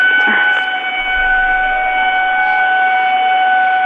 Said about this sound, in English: So, listeners, if you're unfamiliar with this, this is a Lunk Alarm at a Planet Fitness. And it's very loud. It really annoys the customers.